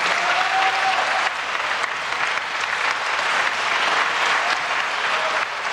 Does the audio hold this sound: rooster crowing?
no